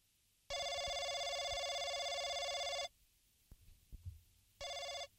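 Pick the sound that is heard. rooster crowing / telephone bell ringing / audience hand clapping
telephone bell ringing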